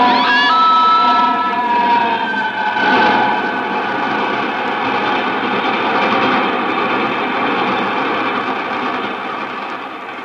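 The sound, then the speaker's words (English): A loud train coming the other way on the tracks roars past, its steady rumbling rush filling the whole stretch, with a shrill tonal whine at the start before the noise slowly eases off. “Now there's another train coming the other way.”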